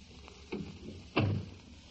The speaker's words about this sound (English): Please close that door.